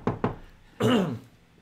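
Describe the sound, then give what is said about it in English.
Two quick, sharp knocks on a door, fairly loud, followed after a short pause by a brief voice calling out with a falling pitch. “You slam the door, you wait a tense moment, and then suddenly you hear a rap at the door.”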